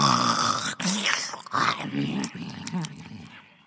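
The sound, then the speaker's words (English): A voice imitates the witch Baba Yaga's loud, rasping snoring as she falls asleep, a few growly breaths in quick succession that rattle and rumble before fading out. “And then the witch fell asleep and snored and snored.”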